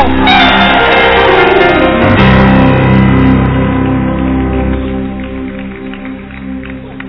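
A large crowd erupts in loud, sustained joyful shouting and cheering, a dense roar of many voices that gradually tapers off over the final seconds.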